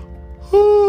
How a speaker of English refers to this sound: It was getting late as … yawned on her way home.